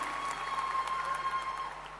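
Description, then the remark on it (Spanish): Steady audience applause welcoming a singer as a guest on a show, a dense crackle of many hands clapping together for two seconds at moderate volume, with a faint constant tone humming underneath and no voices. “Bienvenido, un aplauso, por favor.”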